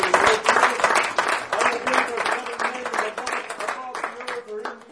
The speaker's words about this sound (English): Can you give him a hand clap of praise? Praise.